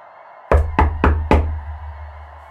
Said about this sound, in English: But then there was a knock. I held my breath to keep quiet, suffocating. Another knock.